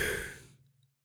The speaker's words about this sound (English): We're going to take a deep cleansing breath in and blow all that out so we can fill up with goodness. Deep breath in.